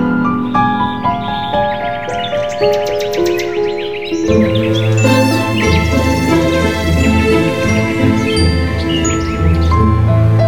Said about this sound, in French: Toujours avec les oiseaux.